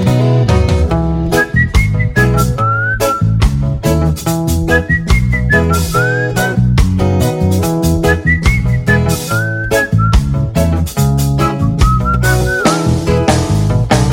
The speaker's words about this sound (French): Je roucoule et je siffle à tue-tête.